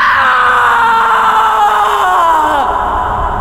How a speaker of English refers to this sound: The scream welled out of some deep, numb place that was still fully human. However wrecked and shattered that place was, it was still mine.